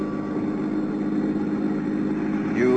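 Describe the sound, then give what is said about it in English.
A new car's engine hums steadily at a low, even pitch, continuous, with a brief rise near the end as it seems to rev or pick up speed, while driving from the airport into town in Sarasota, Florida. “There I was met at the airport by my old friend and fishing pal, Earl Poorman, and we drove on into town.”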